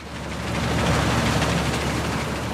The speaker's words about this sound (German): Dieses Geräusch ist aktuell Musik in den Ohren vieler Landwirte. Allerdings, wenn es jeden Tag regnet, dann wird es schwierig mit dem Dreschen.